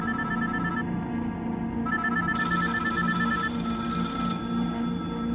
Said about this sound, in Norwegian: De slår telefonnummeret hans. Alle telefonene til Paul ringer samtidig. Men ingen tar telefonen.